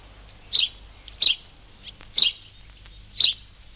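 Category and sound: bird, house sparrows chirping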